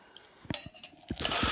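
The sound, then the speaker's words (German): A Collins glass is picked up and set down while mixing a drink, with a few sharp clinks and light knocks, fairly quiet, ending in a brighter rattle of glassware. “Dann nimmt man ein Highball-Glas.”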